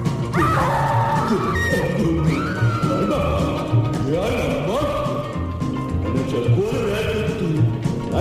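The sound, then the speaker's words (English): King Kong, a giant gorilla, yells loudly right in someone's face, with repeated rising, wavering roars over a dense, rumbling, crashing backdrop that continues for the whole stretch without pause. “The man was King Kong, the gorilla, and he yelled right in my face.”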